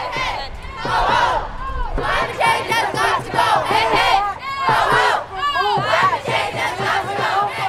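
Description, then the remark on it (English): A large crowd of young climate protesters marching down Market Street in San Francisco chants and shouts together while banging drums, many voices overlapping in rising, rhythmic cries that stay loud and steady throughout. “In San Francisco, they gathered at Speaker of the House Nancy Pelosi's office and flooded down Market Street, chanting, banging drums, and calling for action.”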